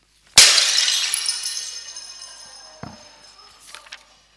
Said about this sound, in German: Unsere Beziehung ist genauso zerbrochen wie dieser Krug. Zerdeppert. Da kannst du nichts mehr zusammenflicken. Den kannst du nicht mehr ganz machen.